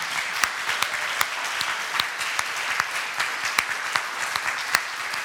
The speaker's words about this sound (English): Well, friends, please join me in giving a round of applause to our worship team.